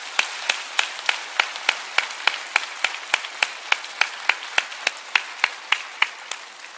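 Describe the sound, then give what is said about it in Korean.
Church audience at a dawn worship service applauding one another in encouragement, heard as a steady, even run of sharp claps, about three per second, carrying on for roughly seven seconds with no talking over it. “서로를 위해서 큰 격려의 박수 부탁드립니다.”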